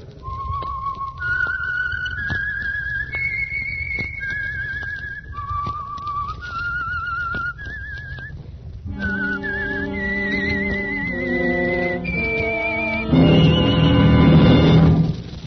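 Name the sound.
whistled signal tune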